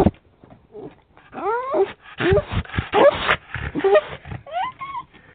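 A dog named Peanut, a female, lets out a run of vocalizations: high, wavering whimpers that slide up and down in pitch, mixed with several short, sharp barks, fairly loud and with no talking.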